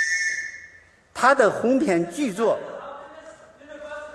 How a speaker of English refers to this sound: Premier Wen paused as a young Caucasian man in the back of the audience stood up and blew a whistle.